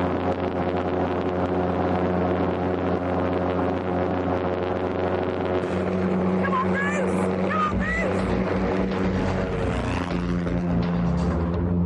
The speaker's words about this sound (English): Is giving it everything this time. It's full throttle at gas mark 9. That has got to be faster this time. It's got to be faster, hasn't it?